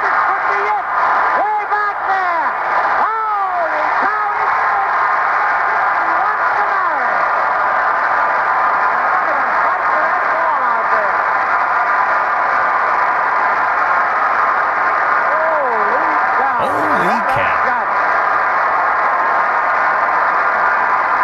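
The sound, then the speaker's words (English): A baseball stadium crowd roars after a fastball is hit deep for a home run, a loud, steady wall of cheering that holds for about twenty seconds, with individual shouts and whistles rising and falling through it. “That crowd is deafening.”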